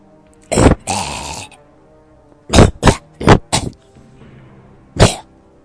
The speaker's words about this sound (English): Still got that cough, I see.